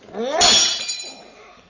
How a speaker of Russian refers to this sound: Разбил графин, и тебя разобью.